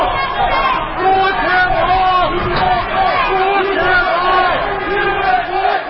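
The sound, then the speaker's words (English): A large crowd outside the U.S. courthouse in Washington at Michael Flynn's departure chants and shouts at once, critics chanting "Lock him up" and supporters shouting "USA", rhythmic rising vocal phrases repeating over dense, steady babble of many voices, loud and continuous throughout. “courthouse in Washington for Michael Flynn's departure was a mix of critics, some of them chanting, "Lock him up," and also supporters of Flynn shouting, "USA."”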